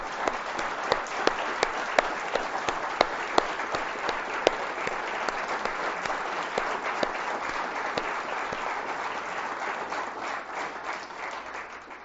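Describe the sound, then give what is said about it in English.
A crowd applauds veterans who have been asked to stand, steadily for about twelve seconds, a dense wash of many hands clapping with a few sharper claps standing out, tapering off slightly toward the end. “I'd like for the veterans please to stand, and let's give them some applause as a small token of our appreciation.”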